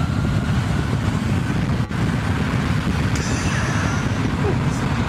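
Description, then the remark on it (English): A big jet's engines roar steadily at takeoff power with people standing close behind it, a loud, unbroken wall of deep rumbling noise, with a thin high-pitched turbine whine rising over it in the second half. “You can hear the jet. The big one.”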